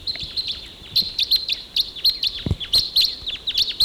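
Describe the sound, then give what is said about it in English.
A rapid series of sharp, high-pitched chips from about four crossbills taking off and flying up higher on a ridge, repeated in quick irregular bursts of two or three notes, fairly loud against a soft background hiss. “Now they've gone down the canyon. Okay, those crossbills,”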